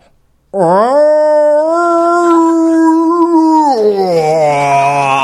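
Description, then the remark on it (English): A person imitates the howl a distressed cat made on an airborne plane: one loud, drawn-out wail that starts low, swoops up and holds, then drops lower near the end, with a strained, nasal tone. “And on the plane, the cat started, once we were airborne, the cat started making a noise that sounded kind of like this.”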